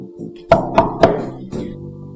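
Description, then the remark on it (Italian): Three quick, evenly spaced knocks from inside a bathroom mirror cabinet, each with a short glassy ring, followed by a softer fourth thud over a low background murmur. “Si girò alle spalle e sentì bussare da dentro lo specchio.”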